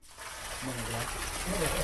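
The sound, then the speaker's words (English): Clean running water pours in a steady, hissing rush in a home on the edge of Phnom Penh, Cambodia, filling the whole stretch, with faint murmuring voices briefly audible underneath. “The sound of running water, clean running water, is not one you've always been able to hear in the ramshackle lean-tos that pass for homes on the edge of Phnom Penh.”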